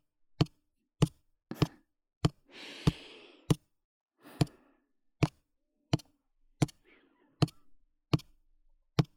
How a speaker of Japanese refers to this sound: 爪でピアノを弾くみたいに、ドタタンドタタン。